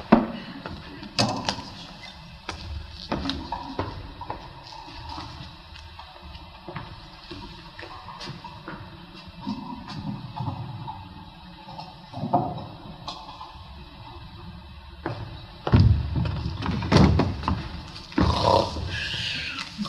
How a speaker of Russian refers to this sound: Когда поднимается занавес, Сладок в рабочем халате сидит за столом, положив на него голову и громко храпит.